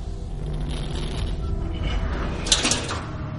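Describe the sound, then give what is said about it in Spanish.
The iron gate giving access to the old Edinburgh Vaults beneath the South Bridge creaks and clanks shut partway through, a sharp metallic rattle standing out over a steady low rumble of background noise. “Pasad porque aquí se entra abriendo la puerta, pero hay que cerrarla.”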